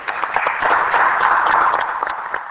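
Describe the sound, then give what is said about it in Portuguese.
Steady applause from many hands in a parliament chamber after Deputy Nuno da Câmara Pereira's five-minute speech, a dense, even patter of claps holding at a fairly loud level throughout, with no voices standing out above it. “Um duplo aplauso, não só pelo conteúdo das suas conclusões, mas também porque conseguiu ser tão sintético e cumpriu rigorosamente os 5 minutos.”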